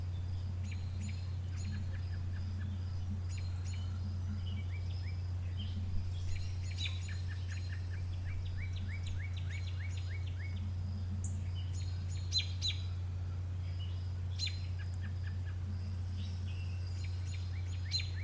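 birds calling

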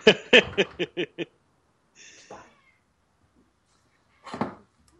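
cat meowing

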